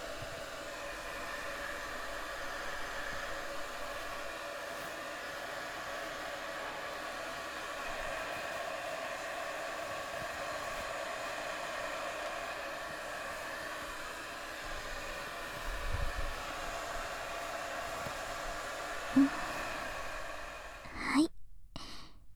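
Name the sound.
hair dryer blowing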